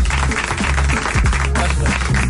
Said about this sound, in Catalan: aquest aplaudiment integral és per tu. Gràcies.